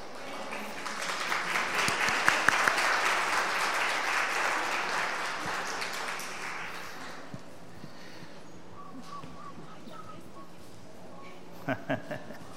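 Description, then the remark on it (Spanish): An audience at a special morning event bursts into steady, dense applause for a family, holding strong for several seconds, then fading to a few scattered claps with faint murmuring and a couple of sharp knocks near the end. “Un aplauso para la familia”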